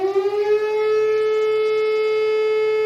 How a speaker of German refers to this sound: Ein schöner Morgen im August, Sommerferien in Niedersachsen, als plötzlich in Wohlstreck gegen 9:30 die Sirene heult.